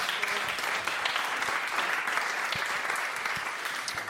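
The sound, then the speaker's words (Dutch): An audience applauds steadily for the full length, a dense, sustained wash of clapping hands at a fairly strong level with no voices standing out, applauding the team of the Brinkhuis. “Groot applaus voor de mensen van het Brinkhuis.”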